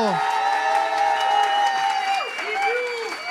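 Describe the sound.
A radio show's demoscopic jury applauds for a contestant, the applause scored at 80 points: a dense patter of clapping mixed with sustained cheering and whooping voices that rise and fall in pitch for a few seconds.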